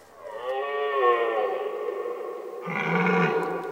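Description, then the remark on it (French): A red deer stag bellows in one long, deep, drawn-out roar that shifts midway into a louder, rougher groan, slightly echoing, with no talking. “Je suis le cerf, brama l'animal.”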